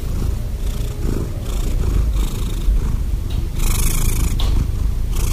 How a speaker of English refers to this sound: how do cats purr?